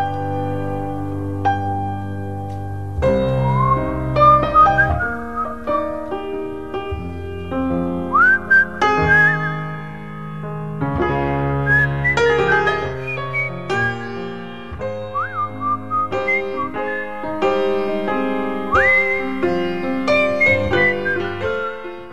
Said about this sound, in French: on sifflote